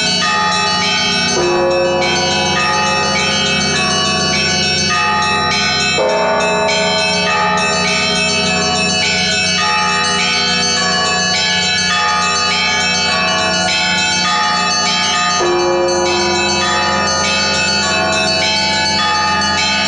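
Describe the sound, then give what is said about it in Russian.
A large church bell tolls loudly, a few heavy strikes spaced several seconds apart, each leaving a long, humming resonance that overlaps the next. No voices. “Каждый новый бой отличается от предыдущего. Да и большой колокол не даст соврать.”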